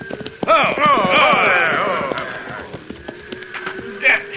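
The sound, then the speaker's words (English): Horse hooves clip-clop at a steady, unhurried pace, following a loud sweeping vocal sound at the start; the hoofbeats continue as quick, sharp knocks through to the end. “Get down off that horse,”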